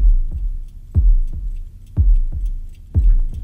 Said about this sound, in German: Und wenn man die Platte dann auflegte, dann kam ganz langsam ein Herzschlag.